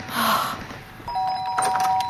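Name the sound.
doorbell ringing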